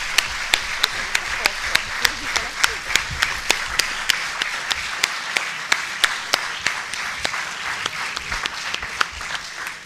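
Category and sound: crowd, long applause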